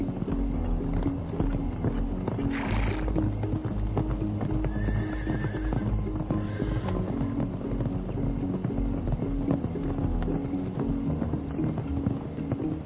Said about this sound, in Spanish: En Rumania, los caballos son considerados principalmente animales de trabajo y no siempre son tratados bien.